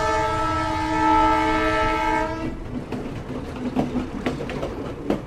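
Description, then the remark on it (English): The horn of the Hiram Bingham, a brand new tourist train to Machu Picchu, blares loudly for about two seconds, then gives way to the rhythmic clatter and rumble of wheels rolling over track as the train gets moving. “Welcome to the Hiram Bingham train. Now, let's go to Machu Picchu.”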